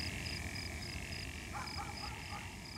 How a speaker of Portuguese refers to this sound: A noite continua calma em Guva. Grilos e sapos cantam as suas canções de sempre.